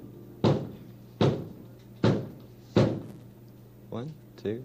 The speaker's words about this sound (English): 1, 2, 3, 4, 5, 6. That's somebody at the door. Let's see who it is. Who's at the door knocking 6 times?